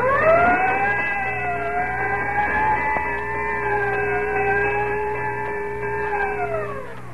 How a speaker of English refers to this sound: Whenever you hear the siren and bell, think of Texaco Fire Chief gasoline.